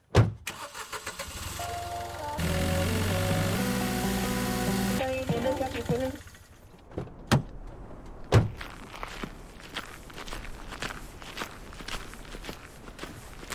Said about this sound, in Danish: Jamen, så lad os lige hoppe ind i bilen og køre ned. Lad os gøre det. Kom.